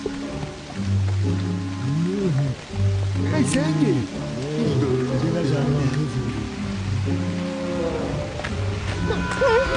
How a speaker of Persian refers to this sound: خب تا اون بالا راهی نمونده بچه ها، شاید یه سایبون پیدا بشه که تا بارون بند میاد اون زیر بمونیم.